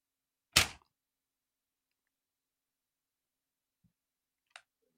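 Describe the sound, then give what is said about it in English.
A sheet of paper is torn in half with one quick, loud rip, followed by silence and a fainter brief tear a few seconds later. No one speaks. “It's paper. Act like it's ripped steel in half.”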